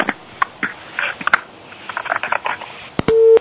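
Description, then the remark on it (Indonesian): A crackly, noisy phone line with scattered clicks from a caller phoning in with a question cuts off, followed at the very end by a loud, steady telephone busy tone. “Mohon maaf, tampaknya terputus.”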